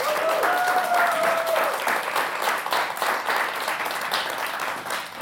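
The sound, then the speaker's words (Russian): Sustained audience applause closing a show, a dense crackle of many hands clapping at steady loudness throughout, with a brief whistle-like tone near the start. “Не помню, под ваши аплодисменты.”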